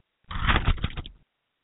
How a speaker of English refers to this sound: And let me pull out my piece of paper here so I could tell you about it.